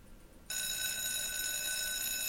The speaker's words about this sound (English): So, okay, that's the school bell here